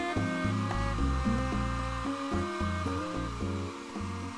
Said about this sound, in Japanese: あ、お兄ちゃんの高いドライヤーだ。やっぱり就職したらちょっぴり奮発できちゃうもんね。